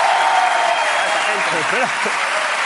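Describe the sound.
Loud, sustained applause fills the whole stretch as a dense, steady wash of clapping, with a brief voice rising and falling faintly beneath it partway through.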